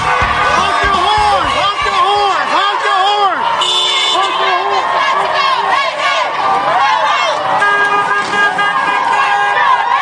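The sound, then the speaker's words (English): Car horns from passing motorists honk repeatedly amid a loud, busy crowd of marchers fanned out on both sides of 14th Street in DC, on a march from Malcolm X Park to Freedom Plaza, with sustained tonal blasts layered over chanting voices and street noise throughout. “Along the way, the march displayed considerable energy, getting enthusiastic honking from motorists as the march fanned out to both sides of 14th Street.”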